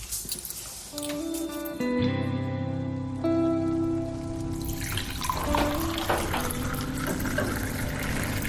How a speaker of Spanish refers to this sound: Poco después de servirnos algo de beber